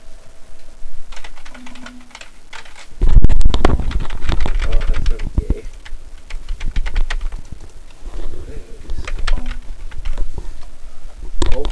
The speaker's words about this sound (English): Punch the keys for God's sake.